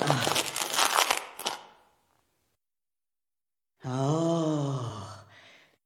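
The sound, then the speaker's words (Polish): A burst of rustling and crinkling as a sack is untied in a treasury full of chests lasts about a second and a half. After a silent pause, a voice lets out a long, strained groan. “No, rozwiążę jeden worek.”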